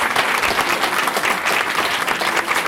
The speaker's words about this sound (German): Nachdem das Kinderkonzert zu Ende war, gab es im Eugele großen Applaus.